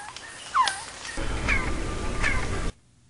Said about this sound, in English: The first two was an actual Quetzal chirp, and the second two was the chirped echo that you get when you clap your hands.